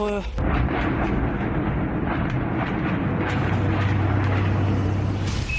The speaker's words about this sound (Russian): Залп из реактивных систем залпового огня. Этим и объясняются взрывы поблизости. Можно было слышать, как эти снаряды взрываются один за другим.